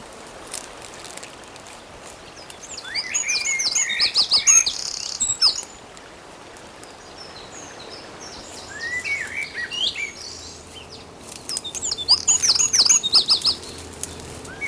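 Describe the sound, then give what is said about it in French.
Birds sing and chirp in bright, repeated bursts over a steady rush of foaming sea waves, with the calls swelling at times and quieter stretches between. “L'écume des vagues, le chant des oiseaux.”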